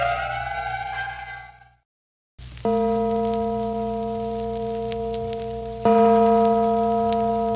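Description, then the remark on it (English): The Phantom Church Bell in Carlton E. Morse's radio drama The City of the Dead tolls twice, slow and evenly spaced, each loud strike ringing on with a long, steady hum. A brief higher tone and a short silence come before the first toll. “And what has all this to do with the Phantom Church Bell and Old Clawfoot?”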